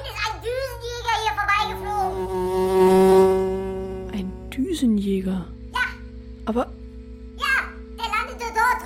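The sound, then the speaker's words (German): A fly buzzes past, its drone swelling loud around the middle before fading away, followed by a few short vocal sounds over a steady low hum. “Papa, das war kein Düsenjäger. Das war eine Fliege.”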